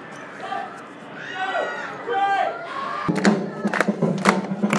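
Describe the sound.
A crowd claps in a steady rhythm along to music for men breakdancing in a street show, the sharp claps arriving after a few seconds of voices and murmur and growing fairly loud.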